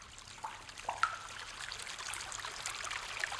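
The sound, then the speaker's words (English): A small stream trickles and gurgles steadily through a cave, echoing, with a few brighter splashy drips standing out; fairly quiet and continuous, no voices. “And a stream trickling through the cave.”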